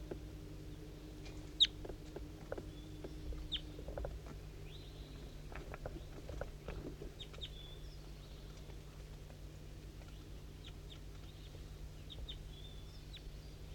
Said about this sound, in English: So recording, there's a wild bird coming around here. I can hear it kind of close up here, but I don't know exactly where it is. It's pretty foggy and I can't really tell what's going on.